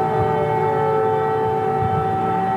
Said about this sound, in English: Siren sound in Kyiv.